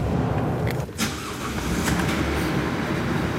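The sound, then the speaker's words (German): A bus engine rumbles steadily as people board it in a dark, cold power-plant tunnel, a continuous low drone with a brief dip and a few higher whooshing surges over the three seconds, and no voices. “Darum steigen wir zum ersten Mal in einen Bus ein.”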